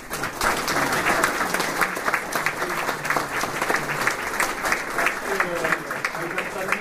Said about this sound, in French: Moi, je souhaiterais que vous les applaudissiez pour le travail qu'elles ont fait.